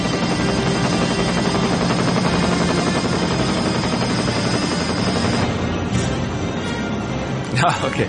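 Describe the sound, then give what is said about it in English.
A helicopter roars in a film scene, its rotor blades thudding in a fast, steady chop that fills the scene, with muffled voices mixed underneath and a brief rattle near the end. “That's a beastie looking, scary looking helicopter. If that flew over my village today or my town today, I'd be a little bit nervous.”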